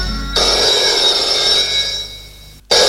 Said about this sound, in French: À 10h, le téléphone sonne dans sa chambre.